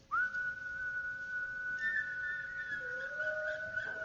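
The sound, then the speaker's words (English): An audience whistles one sustained note together for about four seconds after being asked to, the pitches slightly uneven and wavering, with a lower whistled tone joining near the end. No talking. “Now, how many of you can whistle here? If you can whistle, whistle this note.”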